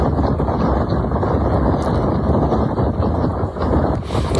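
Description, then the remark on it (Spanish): A torrent of water rushing under the Tajo bridge in Ronda, Spain, feeding the Guadalevín river during storm Leonardo, makes a loud, steady roar, a dense, unbroken churning with deep rumbling underneath, holding the same level throughout with no voices. “Esto que has escuchado es el torrente de agua que fluye bajo el puente del Tajo de Ronda, nutriendo el Guadalevín.”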